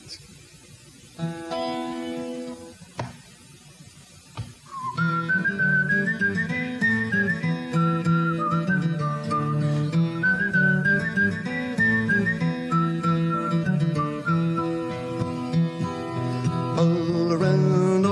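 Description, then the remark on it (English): Someone whistles a lilting, tin-whistle-like melody that enters after a brief instrumental opening and carries on steadily and prominently above a warm, continuous musical accompaniment. “Don't mind my whistling. I'm trying to sound like a tin whistle here.”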